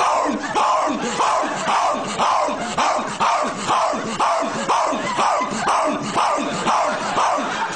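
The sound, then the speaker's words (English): A voice imitates a dog barking, loud, in a steady run of short repeated barks roughly twice a second that continue without a break. “I'm a dog. I'm barking.”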